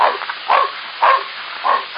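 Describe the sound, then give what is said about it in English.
A dog barks four times in a steady, evenly spaced rhythm, each bark short and fairly loud with a slightly muffled, narrow tone, and no one speaking over it. “I don't want that dog to arouse anyone's suspicion.”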